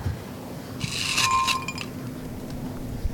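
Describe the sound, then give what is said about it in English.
Ice clinks against a whiskey glass in a short, quick cluster of bright, ringing taps lasting under a second, over a low steady background hum with no talking. “Yeah, but that, I thought you would ice in your whiskey.”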